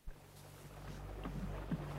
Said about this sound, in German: Oh, hörst du das Wasser? Schau mal die Wellen und unser Segel.